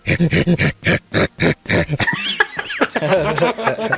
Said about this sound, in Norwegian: Jeg skulle likt å vite litt hva de gjorde for å få til de der lydene. Fordi jeg hører, det høres noe som, det er noe som høres ut som en ku inni der. Og så er det litt knurring fra noe som høres ut som en hund.